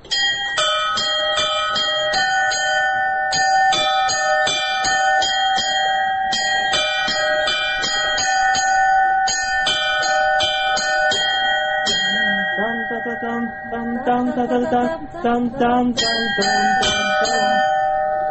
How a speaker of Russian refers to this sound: Здесь уже зависит от того, какие колокола. Удастся ли из них подобрать какую-нибудь мелодию.